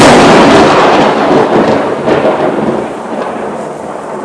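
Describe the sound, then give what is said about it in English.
A loud, close thunderclap from a storm overhead, about a quarter of a mile away, bursts in at full force, then rolls into a heavy, crackling rumble that slowly fades over several seconds, with no voices. “But yeah, the storm cloud seems to have enveloped us now. I'm actually just kind of blabbering on in the vain hope that another one's going to go off.”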